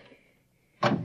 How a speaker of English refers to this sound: Now, this door is open.